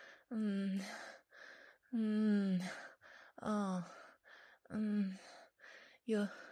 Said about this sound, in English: You're breathing heavily, and your degrading orders are very arousing.